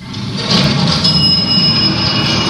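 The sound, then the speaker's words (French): An elevator running: a steady, loud mechanical rumble with a thin, high-pitched whine riding on top, continuous for the whole moment with no voices. “C'est un ascenseur.”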